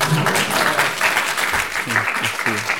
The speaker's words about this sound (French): Et donc vous pouvez applaudir, hein.